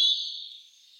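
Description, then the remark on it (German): A European robin sings a single thin, high, sustained whistle that slowly fades over about a second, heard alone and fairly faint. “Da werden wir den Bird of the Day, also das Rotkehlchen, auch nochmal vorstellen.”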